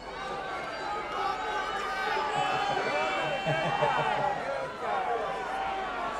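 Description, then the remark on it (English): A crowd of many voices shouting over one another, calling out song requests in a loud, continuous jumble of overlapping cries that holds steady for several seconds. “Well, I heard requests.”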